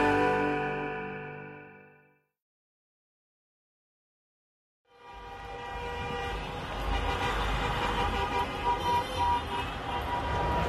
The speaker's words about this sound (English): Downtown Ottawa, a convoy of thousands of trucks has clogged the streets for the last 3 weeks.